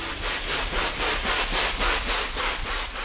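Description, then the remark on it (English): Rhythmic, helicopter-like thrumming of rhinoceros hornbill wing beats in a forest in Borneo: a steady run of loud, breathy whooshes, roughly four per second, with no voices. “What sounds like an approaching helicopter are actually the wing beats of a remarkable bird called the rhinoceros hornbill.”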